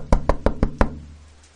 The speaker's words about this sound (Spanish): Al escuchar los fuertes golpes en la puerta, Ruth y Tomás sienten que el miedo